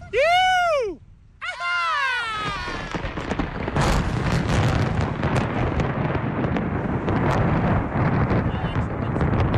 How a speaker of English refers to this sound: I love how the thunder actually just sounded like an amateur theatre production.